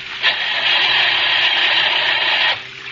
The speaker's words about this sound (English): Oh, gosh, he won't start. Maybe some water got into the engine.